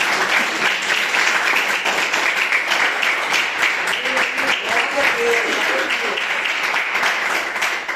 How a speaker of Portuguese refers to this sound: Eu agradeço a oportunidade e as palmas que adorem ao Senhor. Aleluia.